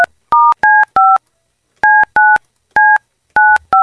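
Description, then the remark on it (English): Telephone keypad dialing tones as a phone call is placed on the Kiss 92.5 radio show: a quick series of nine short, clear dual-pitched beeps in uneven bursts, with a pause in the middle, loud with no talking. “All right, Roz, I got to make a phone call.”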